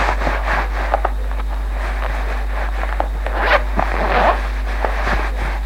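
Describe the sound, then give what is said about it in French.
Steady rustling of clothing as someone gets dressed in clean clothes, with a couple of quick, rasping zipper pulls near the end. No one speaks. “M'habille de propre.”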